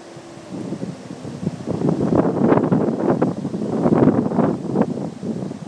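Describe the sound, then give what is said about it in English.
Strong wind of a thunderstorm roars steadily outdoors on a Sunday, gusting and buffeting the microphone with rumbling, rustling bursts that swell and ease over several seconds, no voices present. “can probably hear that wind and the thunder.”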